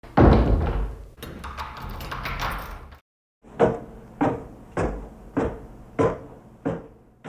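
A door is pushed shut and locked with a big key, with a few seconds of rattling and clunking, then a short pause and a steady series of thudding footsteps as the person who locked it follows others down the stairs.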